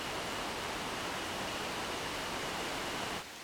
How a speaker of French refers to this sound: Jour 22. Pluie qui arrive, forcie, dure et baisse en intensité.